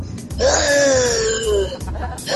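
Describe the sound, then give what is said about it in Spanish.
A voice imitates loud, heavy breathing: one long, raspy exhale with a moaning, voiced tone that slides slightly downward, followed by a shorter breathy gasp at the end. “Gente que respira así como fuerte, así como...”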